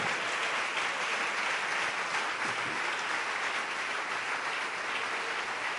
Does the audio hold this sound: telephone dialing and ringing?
no